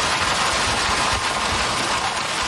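Hail pours down in a dense, unbroken roar of hiss and clatter, with countless small impacts blurring into steady loud noise and low thumps scattered throughout. No voices.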